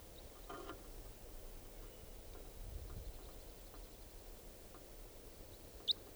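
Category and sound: bird, wild bird calling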